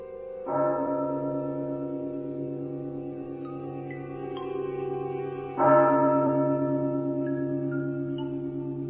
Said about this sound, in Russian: Колокол больничной церкви пробил без четверти шесть.